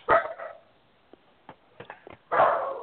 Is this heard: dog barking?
yes